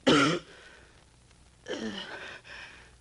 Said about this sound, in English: My trade is a fan painter. But I've been coughing so much lately, no one wants to employ me anymore. I spit blood on the fans.